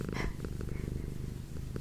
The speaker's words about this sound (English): She's loving all the attention. Oh, purrs. I might do another pillow talk recording with her purring.